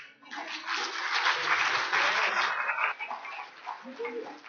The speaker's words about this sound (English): One day, we will stand in glory and our salvation will be complete. Y'all want to give the Lord a round of applause for that?